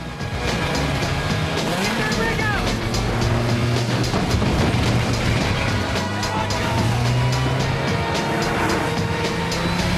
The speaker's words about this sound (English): He sees a construction truck drive through an opening and careers through the roadworks, driving over humps and down a dirt track past astonished road builders.